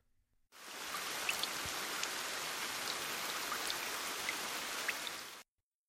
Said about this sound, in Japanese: 雨、止まないね。せっかくのイブなんだから、雨じゃなくて雪が降ればいいのにね。